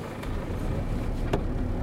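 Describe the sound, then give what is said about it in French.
A car engine rumbles steadily as the vehicle rolls slowly forward on Avenue France Fanon, driving up toward a porch as a barrier is opened, with a couple of brief, faint clicks breaking through the low drone. “C'est bon, ils ouvrent la barrière. Avancez jusqu'au porche.”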